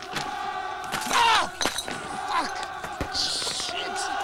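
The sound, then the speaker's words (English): A man smashes another man's face with a lump of debris as he appears round a door: a heavy blunt smash lands with a dull thud, followed by another hard knock, amid grunts and shouts over a tense, noisy background. “Using a lump of debris, Theo smashes Sid's face as he appears round the door.”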